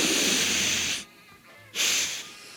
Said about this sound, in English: I've done my sniff. I've done my shot. I'm feeling pretty good.